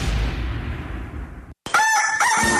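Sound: rooster crowing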